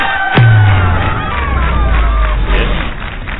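crowd cheering

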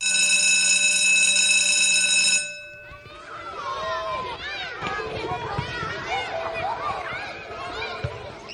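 bell ringing

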